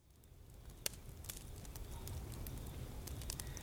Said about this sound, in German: Das Lagerfeuer brennt schon richtig gut. Wir können gleich anfangen, Kartoffeln in die Glut zu legen und Stockbrot zum Backen in die Flammen zu halten.